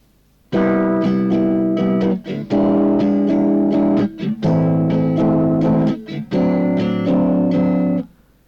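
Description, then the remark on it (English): A chord progression on an instrument: four loud chords in turn, each held about two seconds with repeated rhythmic attacks, in a steady pattern with no voices. “Now let's alter the chord progression a little bit and see what melody comes to your mind with these chord changes.”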